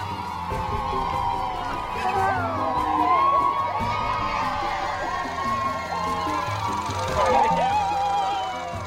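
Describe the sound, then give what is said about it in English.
A large crowd of children cheers and shouts continuously as a plane lands on a dirt runway at Gao, Mali, high excited voices blending into a dense, steady roar that swells slightly now and then, loud throughout. “Amelia uses a small cine camera to film the happy crowds greeting them”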